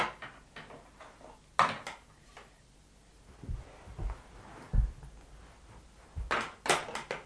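A door thuds shut with a few low knocks, followed by sharp metallic clicks and rattles of a lock being turned, fairly close with no talking.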